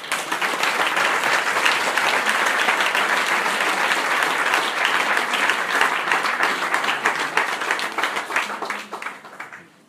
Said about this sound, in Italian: Io vi dico una cosa, non voglio l'applauso per me, voglio l'applauso per il nostro Signore perché è Lui che fa queste cose e noi siamo soltanto dei servi inutili. Grazie.